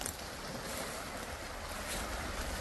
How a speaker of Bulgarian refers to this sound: Реката придойде от дъждовете.